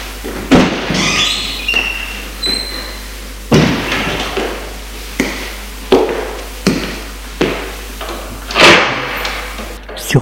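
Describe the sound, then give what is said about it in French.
A front door is opened at home after the doorbell has rung, just after a suitcase is closed, amid a series of sharp clunks and knocks at uneven intervals, with some rustling and shuffling between them. “Il ferme sa valise et va ouvrir.”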